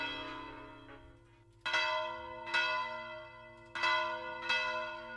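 Church bells in the bell tower of Virga la Mayor, swung by hand in a festive peal calling to a festival or mass, ring out with several loud, resonant strikes at an uneven swinging rhythm with long ringing overtones layering over one another, without any voices.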